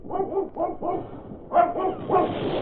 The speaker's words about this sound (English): A couple of the fellows with flamethrowers were moving up a short distance from where I hid out, and as they were about to continue on, they heard Buster barking.